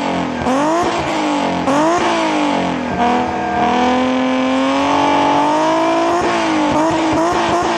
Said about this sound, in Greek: Εκπληκτικός κινητήρας αυτός. Ο ατμοσφαιρικός γρήγορος κινητήρας. Με άμεση απόφαση. Fashion κινητήρας. Χαρακτηριστικός ο ήχος του. Έτσι, αν ακούς αυτό τον V6 να βρυχάτε, ξέρεις ότι μιλάς για Αλφα Ρωμαίο.